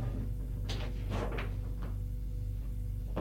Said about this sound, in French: La porte s'ouvre.